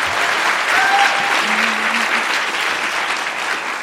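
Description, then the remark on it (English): A crowd applauds steadily, a dense, even wash of clapping that holds its loudness throughout without fading, with a few faint whistles or tones briefly audible through it. “I heard you guys clapping at everything.”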